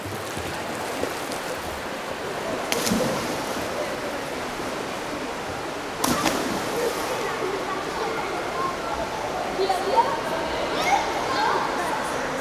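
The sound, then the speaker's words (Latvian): Busy indoor swimming pool at the Elektrum Olympic Centre, with a constant reverberant wash of splashing water from arm and leg strokes, coaches' commands, jumps, laughter and calls blending into the echo off the pool hall walls, and a couple of sharper splashes standing out. “Roku un kāju vēzieni ūdenī, treneru komandas, lēcieni, smiekli un saucieni saplūst kopīgā skaņas mākonī.”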